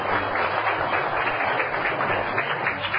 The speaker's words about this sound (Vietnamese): Mời em, hạnh phúc là gì? Các bạn hãy cho một tràng pháo tay ha.